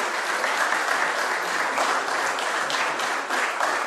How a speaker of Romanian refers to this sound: Să-l aplaudăm și să-i spunem și noi, bine ai venit în mijlocul nostru.